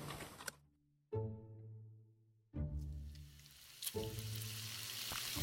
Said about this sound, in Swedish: Och då var det att min brandman satte igång och tjuta på grund av att jag stekte fläsk.